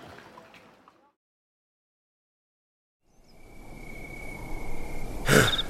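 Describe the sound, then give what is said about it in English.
Water splashes and pours at the Zamzam well as an exhausted traveler drops into the water and rinses blood from his arms and face, starting after a short silence and building steadily louder, ending with a sharp splash. A faint, muffled sound is heard briefly at the very start. “He all but dumped himself into the water in his exhaustion. He rinsed the blood from his arms and face, the day's struggles still fresh in his mind.”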